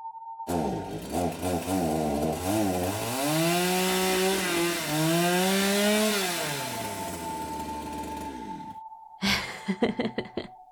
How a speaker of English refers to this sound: That's right, baby. I've gotten so good at this that reality will let me just summon chainsaws, among other weapons, and illogical ways to kill someone.